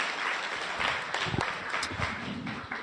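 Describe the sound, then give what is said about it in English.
A crowd claps steadily to welcome a police sergeant as a speaker, a dense wash of overlapping hand claps with a few sharper individual claps standing out, holding a fairly even loudness throughout. “Please give him a warm, warm round of applause.”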